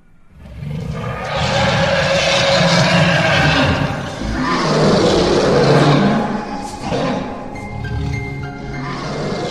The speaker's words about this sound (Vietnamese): Đúng lúc này, ở sâu bên trong mật thất bỗng nhiên chuyển đến một tiếng gầm to, chấn động toàn bộ mật thất đến run rẩy. Tiếng gầm nghe như là tiếng của một con quái thú khủng khiếp vậy, vô cùng kinh hãi, vang lên chấn động.